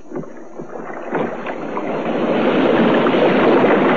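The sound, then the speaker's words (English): Oars rowing through water: sloshing and splashing in a steady wash, with a few soft rhythmic strokes early on, growing louder and fuller; no voices. “And then I heard the sound of oars.”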